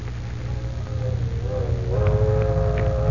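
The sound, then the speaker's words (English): The whistle of Train 609, climbing into the mountains at night on its way to Duncan Ridge, sounds as a long, steady, mournful tone over a heavy low rumble, rising slightly in pitch and swelling louder toward the end, with no voices. “Like some great black snake crawling on silver rails, it has left the city behind it and is climbing up into the mountains, its mournful whistle echoing into the night.”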